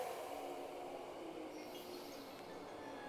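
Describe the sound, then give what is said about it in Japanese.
The 14-car limited express Akagi No. 5 bound for Maebashi rolls into track 2 of a station with a steady, continuous rumble and faint high metallic whining tones over it, unbroken throughout, with no voices. “まもなく2番線に特急赤城5号前橋行きが参ります。危ないですから黄色い線までお下がりください。”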